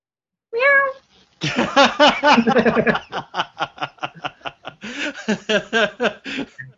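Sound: cat meowing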